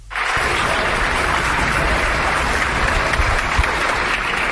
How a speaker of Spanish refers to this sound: Es el aplauso de Mallorca. Este era el primer aplauso del sábado a las 10 de la noche. Ayer ya fue a las 8 y se repetirá a las 8 de la tarde. Es hacia los sanitarios, los que están en primera línea, pero es también hacia las empleadas de supermercado